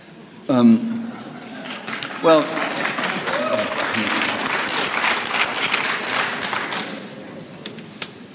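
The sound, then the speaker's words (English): An audience breaks into a burst of applause from some, lasting several seconds, mixed with a low murmur of many voices, angry murmurs from school administrators in the audience, after a couple of brief raised vocal outbursts at the start. “Applause from some, angry murmurs from the school administrators that are in the audience.”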